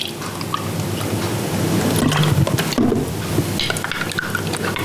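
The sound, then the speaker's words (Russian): A glass of milk pours into a pot holding a turmeric latte spice mix, with a steady, splashy liquid gurgle lasting several seconds, with faint clinks and kitchen background noise. “Вылили в кастрюлю, добавили еще стакан молока,”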